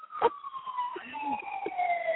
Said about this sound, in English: I can hear it now. I can hear the siren.